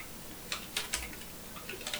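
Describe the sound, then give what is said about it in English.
Several soft, irregular key clicks from typing a search into Google on a computer keyboard, fairly quiet, with short pauses between presses and no voices. “So go to your Google. And instead of typing in redhead in Supergirl, hold on. Tab.”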